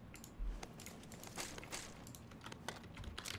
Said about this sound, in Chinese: 哎，是你的脚步声，吓死我了。